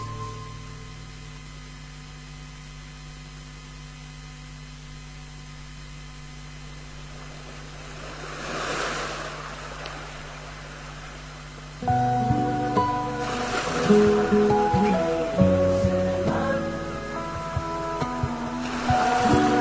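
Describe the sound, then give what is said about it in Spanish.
Steady ocean surf hisses in the background, with a wave swelling and breaking on the shore around the middle; a melodic music piece then rises over the continuing sea sound. No one speaks. “Hoy le dedicamos el bloque temático al mar”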